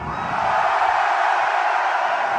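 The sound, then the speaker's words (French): A dense, steady roar of a large crowd, many voices blending into loud continuous clamor with no single voice standing out, sustained evenly throughout. “À entendre la foule, et pas seulement celle du Salon du Livre, on ne peut que constater le pouvoir des mots.”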